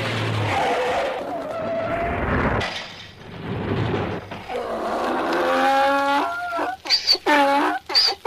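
Tires screech in a long, loud skid that rises and wavers, followed by a jumble of metallic bangs and clatters as the solar bus of Lilipoupoli crashes, ending in short sharp impacts.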